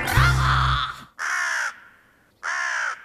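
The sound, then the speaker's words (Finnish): Three loud, harsh crow caws. The first is long and rough, and two shorter, evenly spaced caws follow with brief quiet gaps between them. “Sanotaan, että varis on yhtä fiksu kuin ekaluokkalainen.”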